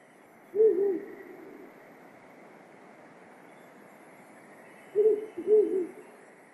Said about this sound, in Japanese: ミゾゴイです。